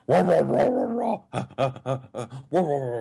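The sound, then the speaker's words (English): Loud dog-like noises: a sustained snarling growl for about a second, then a quick series of four or five sharp, yappy barks, ending in a longer whining bark. “Why do the rape gangs sound like dogs?”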